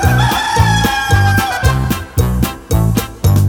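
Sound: rooster crowing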